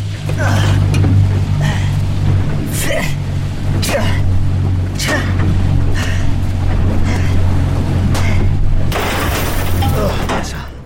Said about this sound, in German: Das Boot rast auf direktem Kurs zurück zum Resort. Abspringen bei Jetantrieb?